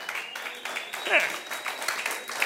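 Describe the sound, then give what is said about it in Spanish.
A crowd applauds steadily in a dense, continuous patter of many hands clapping, with a brief voice rising over it partway through. “Ahí se aplaude, ¿va?”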